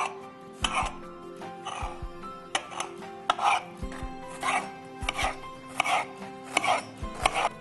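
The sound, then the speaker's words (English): Repeated knife chops on a cutting board as four fresh cucumbers, four tomatoes and a middle-sized onion are diced into small pieces for a Shirazi salad, sharp thuds landing in an uneven rhythm of about a dozen strikes, with soft rustles between them and no talking. “And we are going to dice all of these into small pieces.”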